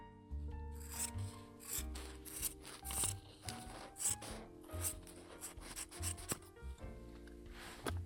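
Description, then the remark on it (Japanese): Scissors snipping through fabric in a steady series of crisp, rasping cuts, with soft rustling of cloth between strokes and no talking. “布を切る音。”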